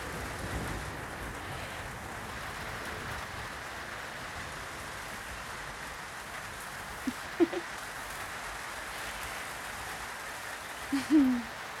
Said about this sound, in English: There's nothing better than the rain. Okay, there are some things that are better than the rain, but it's definitely on my top 5 list. Let's sit outside and just watch the rain. It's not cold or anything. It's just nice.